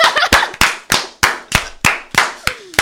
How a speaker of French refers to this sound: On peut quand même les applaudir